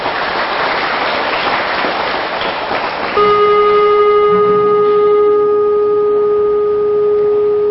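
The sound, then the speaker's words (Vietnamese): Students give a loud round of applause to commit to saying no to negative regret. Dense, crackling clapping lasts about three seconds, then a steady, sustained electronic tone cuts in and holds to the end as the clapping fades beneath it. “Các con nếu thấy rằng đó hối hận tiêu cực là một điều xấu, cần phải là nói không với nó, thì các con hãy cho một tràng vỗ tay thật lớn để cam kết nói không.”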